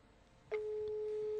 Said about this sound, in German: Jetzt hören wir dein Telefon.